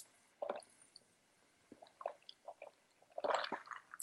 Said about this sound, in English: I just need a sip, 1 second.